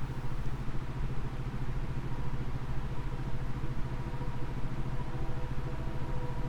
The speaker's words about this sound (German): Neuroimpulse 13, Sleep Aid, weißes Rauschen.